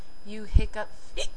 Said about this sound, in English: Okay, you wanted your hiccups, so here they are, my hiccups.